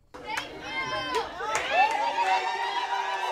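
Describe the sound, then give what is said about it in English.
A large crowd at an election night gathering in Denton cheers and shouts continuously after a ban on hydraulic fracturing passed by a wide margin, many excited voices overlapping with whoops rising above a dense, steady roar. “When the crowd finally quieted down, leaders of Frack Free Denton, the group that spearheaded the campaign to prohibit hydraulic fracturing, were still wide-eyed, jaws dropping.”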